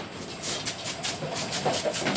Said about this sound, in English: Right here, the scanner is looking at the materials as they come by, and when it sees a clear plastic, like a clear plastic water bottle, it hits it with a puff of air, and you can hear it.